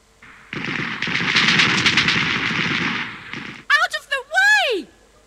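A loud, rapid burst of gunfire from a steam-driven robot called Troubleshoot rattles nonstop for about three seconds, then gives way to several quick, rising and falling electronic-sounding chirps.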